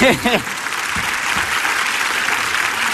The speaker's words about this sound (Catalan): Aquells primers aplaudiments que són els tímics, però que són els que arrenquen tot, no sabeu quan els agraïm. Un quart de 12 al migdia d'aquest divendres 1 de setembre ja passa per aquest escenari del Teatre l'Atlàntida de Vic, al Basté.